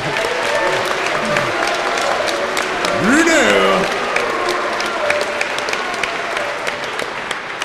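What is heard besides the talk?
audience applause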